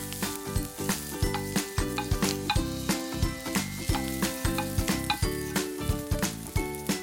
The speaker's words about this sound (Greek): και όπως είναι και έχει συσταθεί το λάδι, κατευθείαν θέλω να βάλετε μέσα τα καρότα και τα κρεμμύδια. Ο ήχος γνώριμος.